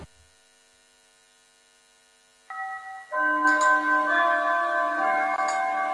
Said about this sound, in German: Da gongt's gerade. Ja, ich gong nicht.